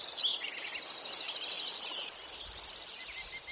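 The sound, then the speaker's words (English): Several male songbirds trill and chirp at once in a spring dawn chorus at first light in the trees, a dense, overlapping chorus of rapid high notes that runs without pause, with no voices. “As early morning light extinguishes the stars, as the first rays of sunlight fill the trees, male birds begin to pour out their songs.”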